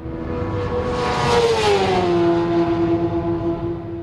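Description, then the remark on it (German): A car engine roars loudly at high speed, its pitch sliding downward as it races past and keeps droning for about four seconds, with no voices. “Zünder drehte sich um und rief: Dynamit, fahr schneller, sie sind hinter uns her.”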